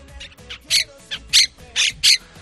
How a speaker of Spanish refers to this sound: Y todo esto es lo que nos están dejando las 12.000 cotorras de procedencia argentina que están invadiendo Madrid. Sí, dicen los expertos que no están en su hábitat natural y eso hace que se vuelvan más agresivas.